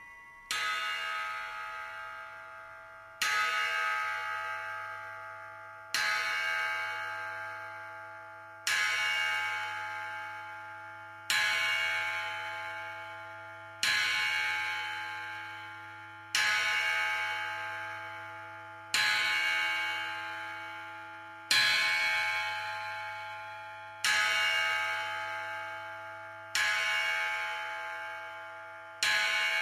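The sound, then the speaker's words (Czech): A deep bell tolls slowly and steadily, striking midnight, about a dozen strikes spaced a few seconds apart, each ringing out and fading before the next, with no voices. “Z dálky se sova ozývá a nad ním půlnoc bije zvon.”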